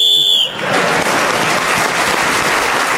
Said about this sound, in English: So Clement Freud speaking as the whistle went, and with other points in the round, he's moved forward.